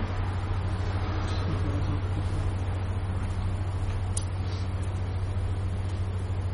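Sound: car maneuvering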